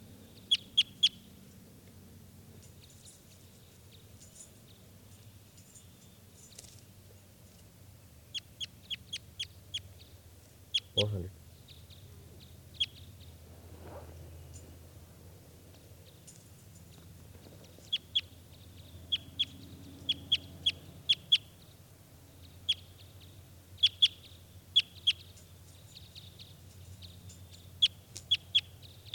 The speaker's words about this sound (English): This is bird 400 here. 400.